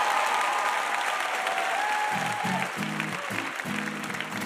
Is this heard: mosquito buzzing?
no